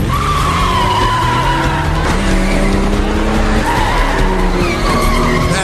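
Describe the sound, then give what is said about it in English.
Tires screech and skid repeatedly over roaring engines in a loud, continuous film car chase, with sliding squeals rising and falling for several seconds. “So, No Time to Die. The car chase.”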